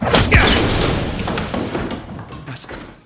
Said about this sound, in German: Was ist das? Ich trau meinen Augen nicht. Der Stuhl ist einfach abgeprallt.